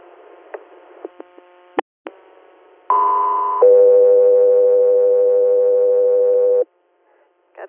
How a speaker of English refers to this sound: 203 Air, stand by for tones again.